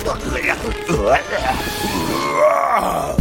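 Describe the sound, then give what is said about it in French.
Low, drawn-out zombie groans run continuously for about three seconds, rising and wavering in pitch with a rough, guttural texture, loud throughout with no clear speech. “Des zombies!”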